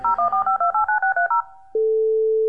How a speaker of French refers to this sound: Ah, oh, le jingle téléphone, trop nul.